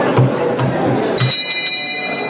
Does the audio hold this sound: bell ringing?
yes